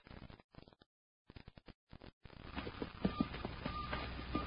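Horse hooves clip-clop in a quick, uneven run of sharp knocks, then stop as a dense, steady wash of background noise takes over. No one speaks.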